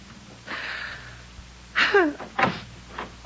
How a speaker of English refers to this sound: Did I hear the front door slam? Was that wonderful, wonderful sound Agnes making her final exit from my life?